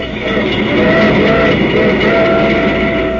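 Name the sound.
train on the rails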